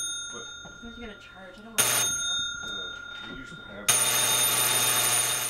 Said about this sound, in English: The door buzzer heard from the workroom of Clarity's Cobbler Shop on College Avenue in Fayetteville.